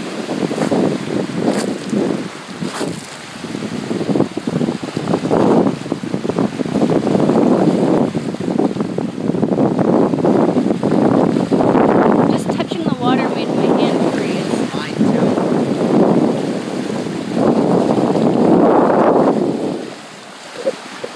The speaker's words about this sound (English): Arctic Ocean. Now that it's August, it's not frozen. I think it's just so cool to listen to the waves. It's very pretty. Big blue ocean. It's really pretty to watch. It's very rocky up here, so the waves are really loud.